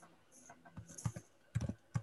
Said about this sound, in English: I guess I can wait till you're done typing